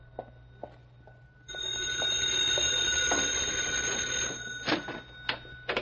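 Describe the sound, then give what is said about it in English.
An old-fashioned payphone bell in a neighborhood drugstore rings in the evening in one continuous, loud, metallic burst of about three seconds, preceded and followed by a few sharp clicks and knocks. “It's okay, Pup. It's for me. I've been expecting a phone call.”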